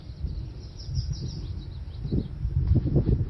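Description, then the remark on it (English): Birds chirp and twitter faintly in a quick, scattered series over a steady low outdoor rumble, recorded at Great Meadow in Acadia National Park at 5:53 on the morning of Friday, June 9th, about 50 degrees, windless and foggy, using a Mix Pre-3, a Sennheiser ME-62 and a Telinga parabola. No one speaks. “Laura has spent her last six summers recording the bird sounds in and around the park.”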